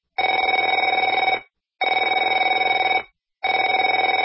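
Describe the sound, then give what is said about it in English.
A telephone rings three times, each ring a loud, buzzy trill lasting just over a second, separated by brief silent pauses in a steady rhythm. No voices are heard. “Afraid to answer it?”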